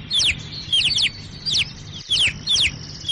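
Newly hatched nestling birds that cannot yet fly chirp insistently for food with open mouths, waiting for their parents to bring food, high thin cheeps coming in about five quick clustered bursts, fairly loud, with no talking and only a faint low background hum.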